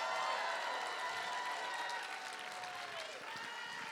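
audience clapping

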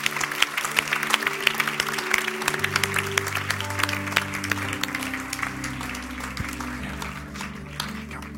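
audience applauding

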